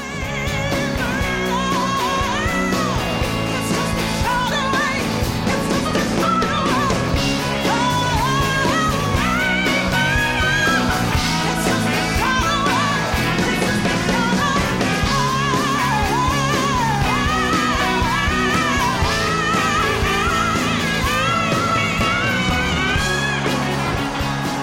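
Loud, dense live rock performance with a full band driving steadily throughout, while a powerful female voice wails and soars in long, sliding notes above the music.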